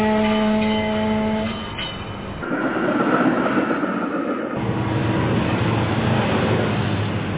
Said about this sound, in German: Eisenbahnzug